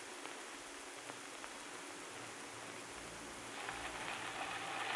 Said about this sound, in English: We need this rain out there on the farm. So you can just count every one of these raindrops as another dollar bill.